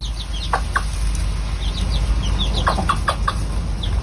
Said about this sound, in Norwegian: her hører vi høna Silvia, som er hovedpersonen i boka mi, og her har hun blitt hønemor